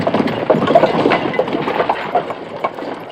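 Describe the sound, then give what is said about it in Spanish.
Horse hooves clip-clop in a steady, unhurried rhythm over a dense, rumbling background of outdoor noise, moderately loud throughout, with no voices; soldiers on horseback and a red commander on horseback, in a forest beside a road. “Lo llevan ante un comandante rojo que le recibe a caballo.”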